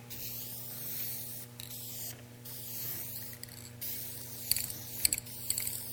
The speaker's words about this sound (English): Hope you like the smell of spray paint.